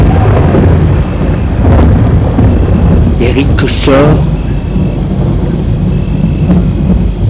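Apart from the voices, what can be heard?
thunderstorm with rolling thunder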